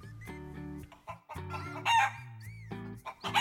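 A turkey gobbles loudly in a few rapid, warbling bursts, with short pauses between, and no voices present.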